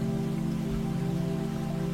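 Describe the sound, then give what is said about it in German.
Splashing water of a babbling brook, a steady, unbroken wash of trickling and bubbling at an even moderate level, with a low hum beneath it and no voices. “Das plätschernde Geräusch kommt näher und näher.”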